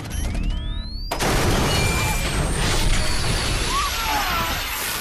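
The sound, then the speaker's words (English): An EMP blast set off by terrorists, taking out CTU: a thin electronic whine rises steadily in pitch, then a sudden loud burst erupts and settles into a dense, roaring rumble while the whine keeps climbing higher. “It's an EMP!”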